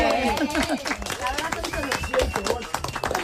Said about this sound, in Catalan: Bé, un aplaudiment. Bé.